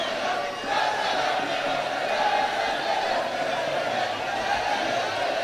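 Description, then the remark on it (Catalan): A dense, steady roar of a large crowd cheering and clapping for a festival troupe as it leaves the Cap de la Vila and makes its way through the crowd filling the start of Carrer Major, sustained and loud throughout with no pauses, filling the space around the listener. “Aplaudiments per la colla de Simó Busquets, que marxa ja del cap de la vila.”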